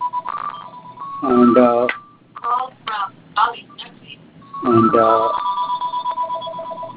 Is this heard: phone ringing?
yes